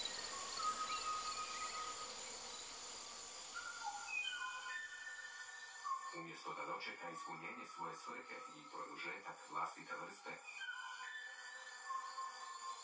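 A Kauai oo sings a series of clear, separate whistled notes over a hissy background. Partway through, a rapid run of pulsed, rattling calls follows, moderately loud and heard alone.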